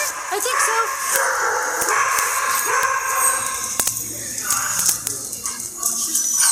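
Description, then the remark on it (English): A crowd of dogs at a dog daycare barks, yips and howls all at once, the overlapping calls echoing with constant, fairly loud commotion for several seconds. “These dogs come home every night and they're exhausted.”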